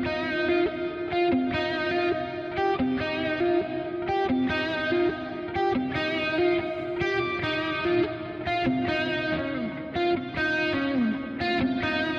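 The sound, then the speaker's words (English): A loud, heavily distorted electric guitar plays dense, sustained chords with rhythmic strums. It sits in a darkened, washed reverb with much of the high end removed and a pre-delay set to 125, giving a delayed onset. No one speaks. “I've taken so much of the high end out of this reverb as well.”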